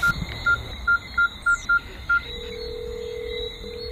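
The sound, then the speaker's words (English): A phone number is dialed: seven short, evenly spaced keypad beeps, clear, followed by a steady low tone humming to the end. No one speaks. “Who are you calling?”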